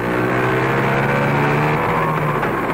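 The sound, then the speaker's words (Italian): A Vespa scooter engine runs loud and steady for a few seconds, its buzzing drone holding a low, slightly wavering pitch as it revs, with no voices over it. “Gioia di vivere, ridere, giocare, godere della propria giovinezza, correre in Vespa, essere felici insieme.”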